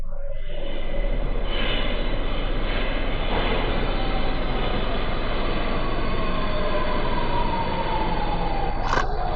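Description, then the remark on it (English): A train rumbles steadily as it approaches a station, a loud continuous roar with a metallic squeal slowly sliding in pitch as it brakes, and a brief sharp screech near the end. “As I hurried towards the other platform, on the platform above, I heard the sound of the train approaching the station.”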